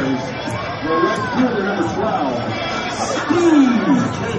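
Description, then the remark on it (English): A steady wash of crowd noise at a live event, with overlapping chatter and babble throughout, a few voices rising above the hubbub and swelling louder toward the end. “That's the crowd.”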